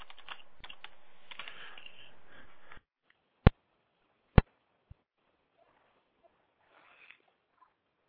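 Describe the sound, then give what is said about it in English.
Quick, busy typing on a computer keyboard by a man for a few seconds, then a handful of isolated, sharp key presses spaced apart in near silence, with no voices. “I heard him typing away there.”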